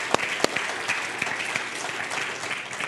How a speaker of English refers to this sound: Can we give them a round of applause and thank them for that?